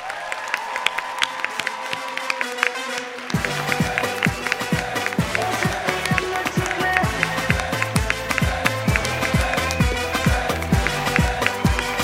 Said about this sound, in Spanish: Queremos que le deis un aplauso muy grande a la mujer del robot Emilio. Es. ¡Lala Chus!